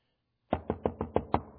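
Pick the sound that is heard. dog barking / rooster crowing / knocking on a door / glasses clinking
knocking on a door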